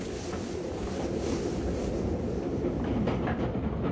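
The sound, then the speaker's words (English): A passenger sleeper train rolls steadily along the rails at night, a continuous loud low rumble with faint rhythmic clatter from the wheels and a rushing hiss on top. No voices are heard. “Do not disturb yourself, monsieur le conducteur. We are leaving the train.”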